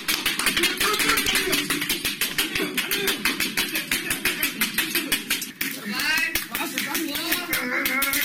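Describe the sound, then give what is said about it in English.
A man cracks walnuts on his head in a Guinness World Record of 273 walnuts in one minute: a rapid, relentless series of sharp snaps, several per second, over background voices, with shrill whistle blasts from the timekeeper joining in toward the end. “This is the sound, a portion of it anyway, of a man who was able to crack 273 walnuts on his head in 1 minute.”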